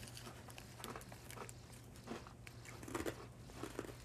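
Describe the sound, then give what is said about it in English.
Crisp crunching of hard rye crisps, with repeated bites and chews in an irregular rhythm over a steady low background hum, no talking. “Tastes like rye. It's crunchy.”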